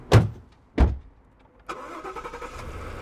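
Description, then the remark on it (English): Two sharp, heavy thumps, then an armored truck's engine catches and settles into a steady, rumbling idle, fairly loud, with no talking; the truck is boarded for a field-trip ride to the Mint. “Hop aboard my enchanted armored truck.”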